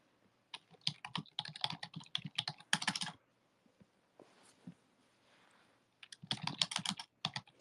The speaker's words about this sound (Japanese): ちょっと待って。タイピングしてます。